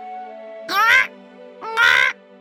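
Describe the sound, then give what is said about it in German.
Two loud, harsh squawks from a parrot in a tree in a forest, about a second apart, each a short raspy burst, standing out over a faint steady background hum. “Der Papagei ist im Baum, rief ich.”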